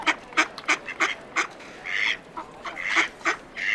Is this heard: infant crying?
no